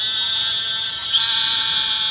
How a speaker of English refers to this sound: The narrow-mouthed toad. And right now they're calling in the water with just the tip of the snout sticking out of the water.